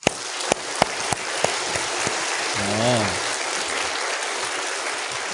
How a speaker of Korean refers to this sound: 하나님께 영광의 박수를 한번 돌립시다. 좀 덜 감격스러운가 봐요. 박수 소리가 어때? 좀 괜찮은 같은 느낌이에요. 한번 힘차게 한번 쳐봐요.